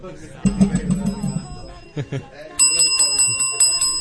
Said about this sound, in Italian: Guarda, come fa a suonare il campanello